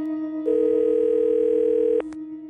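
A steady, unbroken telephone dial tone holds one pitch for about a second and a half over a low continuous drone, then cuts off abruptly.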